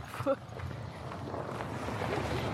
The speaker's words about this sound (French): Là, il y a du trafic, là.